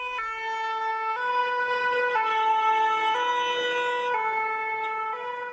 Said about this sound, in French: Alors qu'ils s'approchaient de la maison, un camion de pompiers les doubla à toute allure.